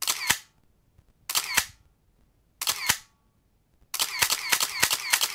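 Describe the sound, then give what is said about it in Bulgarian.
Camera shutters fire in quick bursts of two or three crisp clicks with short pauses between, then break into a rapid, continuous volley, like a crowd of press photographers snapping away. “Както се сещате, това е звук от фотоапарат. Папарашки фотоапарат, ако трябва да сме точни.”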